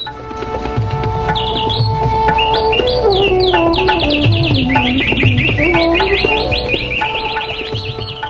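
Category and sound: bird, birds chirping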